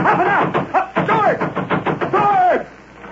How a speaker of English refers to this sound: You turn and start pounding on the door and shouting frantically. Let me out of here!